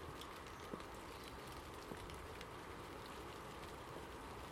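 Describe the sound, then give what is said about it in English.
Steady wind-driven rain patters and hisses on a shed overhang overhead, with a few sharper drops ticking through the dense wash of noise; the wind is coming from the east. No voices. “Now, though I'm sheltering below the overhang of the shed, the rain's still getting to me, which tells me that rain, or the wind, is coming off the east.”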